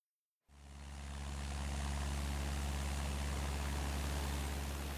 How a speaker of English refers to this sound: Super Bee, what is it? Look, Ellie, a plane. It's a plane.